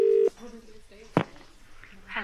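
A short, loud burst of telephone ringing tone while a caller waits for an answer, a steady low purr heard once at the start, then a sharp click and quiet room sounds with faint murmuring.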